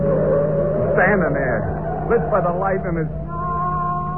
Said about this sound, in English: Gas pedal down to the floor. The motor's roaring like 100 horses screaming.